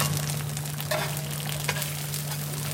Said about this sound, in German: Hier an einer Bude am Straßenrand im Zentrum Shanghais brutzeln chinesische Eierpfannkuchen auf einer Heizplatte. Sie sind ein beliebter Snack für zwischendurch auf die Hand.